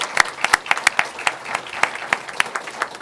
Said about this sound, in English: And so one more round of applause for those kids from Raisinville.